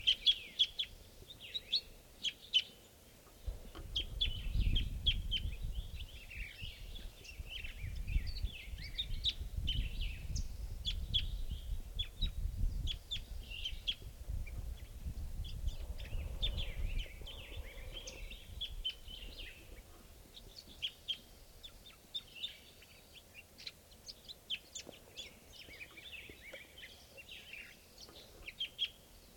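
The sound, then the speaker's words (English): Calls of a crossbill in the treetops at 7:54 chirp repeatedly throughout, high and fairly faint, scattered in irregular bursts over a low rumbling background that swells and fades. No one speaks. “So we're calling at 7:54 now, and there's a bird crossbill calling a lot from the treetops here.”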